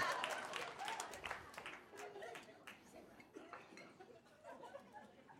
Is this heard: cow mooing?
no